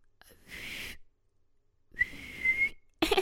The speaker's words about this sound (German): Ich warte hier draußen und steh Schmiere, okay? Wenn jemand kommt, pfeif ich.